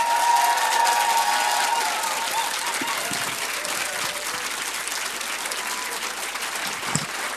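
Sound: audience applause and cheering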